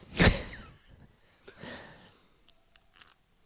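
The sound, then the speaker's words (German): Uke the pet breathes audibly: a sharp snuffling exhale at the start, then softer, raspy breaths and faint wheezy sniffs, with no one talking. “Uke hört man atmen.”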